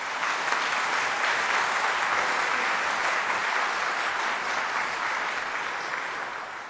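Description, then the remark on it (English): Steady crowd applause given to children who took part, a dense wash of many hands clapping at an even loudness for several seconds, tapering slightly at the end, with no voices over it. “And I think after all this wonderful participation, it would be appropriate to give, especially our children who are brave to be in front of us, a round of applause.”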